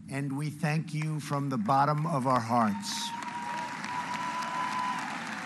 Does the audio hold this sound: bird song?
no